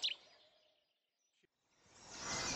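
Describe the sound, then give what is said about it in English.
Faint early morning birdsong, broadcast in a collaboration with the European Broadcasting Union: a short, bright chirp opens, a near-silent pause follows, then a soft, dense wash of bird calls swells up. No one speaks. “The beautiful sounds of early morning birdsong.”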